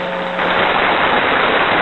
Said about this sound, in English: All right, there's your applause.